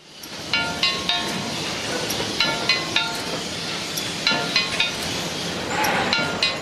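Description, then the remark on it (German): Sharp metallic taps of a hammer striking finished bricks passing on a conveyor belt at the Rapperswil brickworks near Bern, Switzerland, checking them for damage. The taps arrive in quick clusters about once a second, ringing with bright high overtones over a steady rumbling machine background. “Im Sekundentakt fahren die fertigen Ziegel auf dem Band vorbei und werden mit einem Hammer abgeklopft, bevor sie Rapperswil verlassen.”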